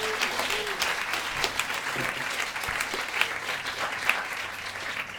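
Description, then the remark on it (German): An audience applauds steadily for several seconds, a dense wash of many hands clapping at an even, moderate level with a few sharper claps standing out. “Kleiner Applaus für Herrn!”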